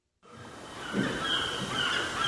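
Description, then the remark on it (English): Seagulls cry in a few high, drawn-out calls over a steady wash of seaside noise beside the Pacific Ocean in Santa Monica, Southern California, with no voices present. “This three-story townhouse in the neighborhood of Santa Monica is so close to the Pacific Ocean, you can hear the seagulls.”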